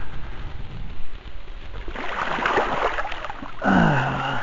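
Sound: splashing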